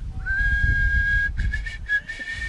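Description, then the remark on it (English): Someone whistles: a note slides up into a long steady tone, then breaks into a few shorter notes, with a low rumble of background noise underneath. “I can make an attempt at whistling.”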